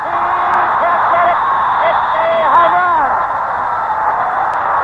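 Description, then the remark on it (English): A baseball stadium crowd roars steadily and loudly for about five seconds after a home run hit 406 feet into deep center field, a dense wall of cheering voices with higher whoops and rising, falling whistle-like yells poking through. “And the roar of the crowd, here it is.”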